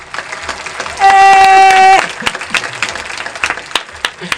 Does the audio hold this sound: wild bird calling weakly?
no